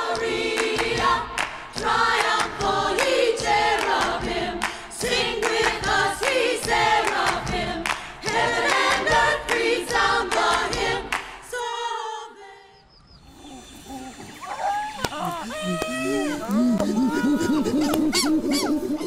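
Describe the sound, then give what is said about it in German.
An audience at a church service claps along in a steady, driving rhythm while a gospel choir sings loudly; after the song breaks off, different warbling vocal sounds follow. “Und auch im Gottesdienst wird geklatscht, bis der Kirchturm wackelt. Zumindest wenn ein Gospelchor singt.”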